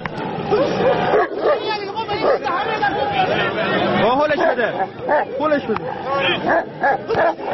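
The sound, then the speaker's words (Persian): Dogs bark, snarl and yelp in a frenzied scuffle at a staged dog fight in Zanjan, Iran, where two owners set their dogs on each other at the match whistle, while a noisy crowd shouts and chatters all around, the commotion loud and continuous from start to finish. “در این نبرد خونین، صاحبان دو سگ با نواخته شدن سوت مسابقه حیوانات را به جان هم می‌اندازند و با تحریک کردن آنها در نهایت صحنه دلخراشی شکل می‌گیرد”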